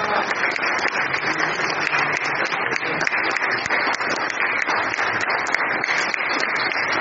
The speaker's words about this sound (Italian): complimenti per quello che hai fatto. Applauso.